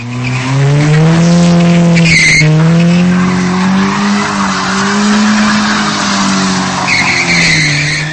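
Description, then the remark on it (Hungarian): Loud, sustained tire squealing from cars deliberately drifting at high speed on a frozen, snow-covered promenade in Dobogókő at night, with a steady high-pitched screech that wavers in pitch over several seconds, mixed with engine roar and a brief sharper burst partway through. “Ilyen hangja van a driftelésnek, vagyis annak, amikor a nagy sebességgel haladó autót szándékosan csúszásban és forgásban tartja a sofőr.”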